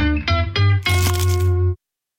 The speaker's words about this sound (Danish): Det her var et forsøg på at tage en lydløs bid af den nye knasende kyllingeburger McCrispy. Desværre fejlede det.